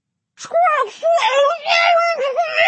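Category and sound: human body sound, woman screaming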